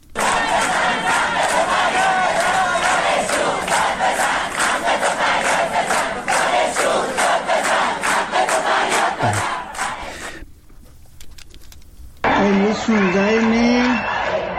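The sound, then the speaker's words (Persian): A loud crowd of protesting high school students in Iran chants slogans such as "Death to the dictator" and "Freedom, freedom, freedom" in a steady, rhythmic cadence, voices surging together; the chanting drops away briefly near the end before a burst of loud shouting resumes. “بچه های دبیرستانی شعار مرد بر دیکتاتور، آزادی آزادی آزادی.”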